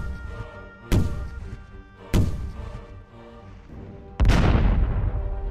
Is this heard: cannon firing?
yes